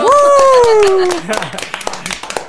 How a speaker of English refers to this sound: Round of applause to you all. Oh, yay!